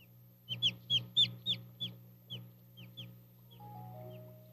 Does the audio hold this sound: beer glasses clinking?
no